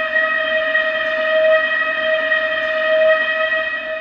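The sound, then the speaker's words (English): A steady, piercing metallic squeal of train wheels grinding against the rails as the train speeds through a frosted city, loud and unbroken for several seconds, with a faint rumble underneath. “The wheels of the Dunleavin train screeched on their track.”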